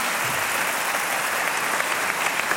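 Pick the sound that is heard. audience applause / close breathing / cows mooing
audience applause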